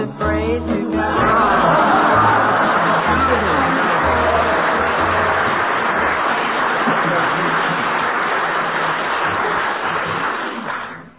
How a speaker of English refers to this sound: I think you were thrown by the audience applauding you for doing absolutely nothing.